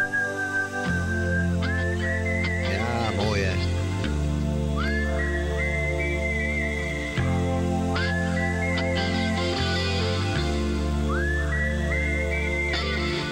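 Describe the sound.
A clear whistled melody with sliding, sustained notes rises over a steady rock band backing, played loud and close; a voice briefly speaks a few words near the start.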